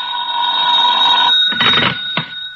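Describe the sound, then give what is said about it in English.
A telephone rings with a loud, steady electric bell tone at nearly 11 o'clock at night, followed by a couple of clattering bursts like a handset being picked up, with no talking. “I wouldn't hear from him for days, and then all of a sudden he'd call up at the craziest time.”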